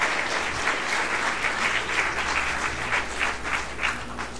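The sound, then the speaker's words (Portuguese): Steady applause from an audience at a talk fills the whole stretch, a dense, even patter of many hands clapping at a consistent loudness with no voices rising above it. “Palmas pro nosso querido amigo”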